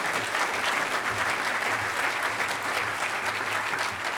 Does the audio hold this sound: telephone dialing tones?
no